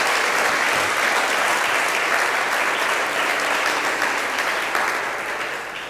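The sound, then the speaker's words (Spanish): A church audience applauds for Christ, a steady, dense wash of many hands clapping at full strength for about six seconds, with no voices breaking through, before tapering slightly at the end. “Dale un aplauso a Cristo, querido hermano.”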